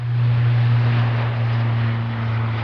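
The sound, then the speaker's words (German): Military airplanes taking off and flying low rounds at Wunsdorf near Hannover, Lower Saxony, Germany, during the NATO exercise Air Defender; the engines roar loud in a steady, unbroken drone with a deep humming undertone, holding at full strength throughout with no voices. “In Wunsdorf bei Hannover starten etwas mehr Flugzeuge als sonst.”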